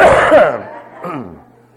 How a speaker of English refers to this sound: Excuse me while I cough.